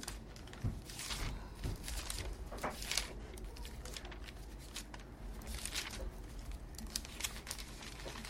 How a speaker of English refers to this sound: Y'all realize, y'all do know I'm reading a real paper Bible. Yeah, catch y'all hear him flipping. Catch y'all hear him flipping. Old school reader here.